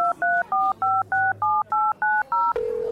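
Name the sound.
touch-tone telephone dialing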